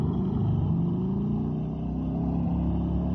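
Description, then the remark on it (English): A motorcycle ridden by a girl, in the trailer for the film Satan's Sadists, roars steadily with a deep, loud engine rumble, its pitch creeping slightly upward as it revs. No voices are heard. “Girl on that motorcycle.”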